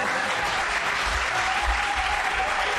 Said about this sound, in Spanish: ¿Cómo te gusta, que te den palmas? Sí. Bueno, a ver, yo no he pedido palmas. Yo he dicho que se me podían haber dicho hola, ¿qué tal? Bueno. No, para hablar ya está la productora del programa. Hay que aplaudir con un poquito de más brío, ¿eh?